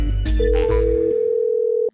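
A telephone ringing tone sounds before a call connects: a few clicks and rustles, then one steady, fairly loud electronic tone that holds for about a second and a half before cutting off abruptly.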